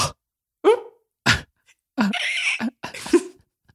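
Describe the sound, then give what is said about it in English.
A person makes a quick series of short, squeaky, gibberish-like vocal bursts, imitating how the Animal Crossing character KK Slider talks. The bursts are fairly loud, with brief pauses between sounds. “What I was doing was more of a squeak.”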